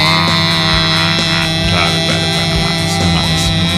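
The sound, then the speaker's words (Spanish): A loud, unbroken buzzing drone of many vuvuzela horns blaring together throughout a football match in a stadium, steady and harsh, like a swarm of bees, with faint crowd noise underneath. “la vuvuzela no era como la corneta esa utilizada en muchos estadios”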